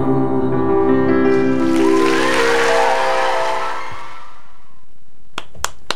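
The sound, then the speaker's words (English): A person claps three quick, sharp times near the end, after a long sustained harmonic tone fades out. The claps are crisp and fairly soft, with no talking. “stop clapping.”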